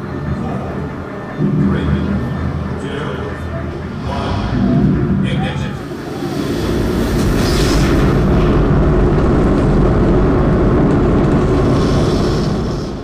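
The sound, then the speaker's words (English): Audio from an interactive exhibit on the 1960s test stand firings of the Saturn V rocket engine: a deep, rumbling roar swells after a few seconds of murmuring voices, then holds as a loud, steady, crackling blast through to the end. “crowd around an interactive exhibit on the test stand firings of the Saturn V.”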